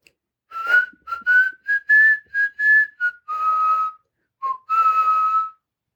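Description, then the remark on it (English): A person walking down an empty tunnel whistles the bouncy marching tune The Ants Go Marching, a quick run of short clear notes followed by a few longer held ones, alone with no talking. “I follow the butterfly down an empty tunnel while whistling my favorite tune, The Ants Go Marching.”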